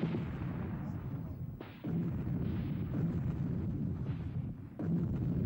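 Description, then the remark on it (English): Artillery guns boom loudly over a continuous heavy rumble, with sharp new blasts landing every few seconds and no voices: guns firing as the Eight-Power Allied forces attack Beijing, the booming throwing the Forbidden City into panic. “Booming guns threw the Forbidden City into panic.”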